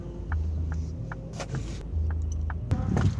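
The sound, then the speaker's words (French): A car on the move during a 40-minute morning drive, heard from inside as a steady low engine rumble and road drone, with a few faint, evenly spaced clicks and brief rattles over it. “Après un gros bisou, je remonte en voiture. C'est parti pour 40 minutes de trajet.”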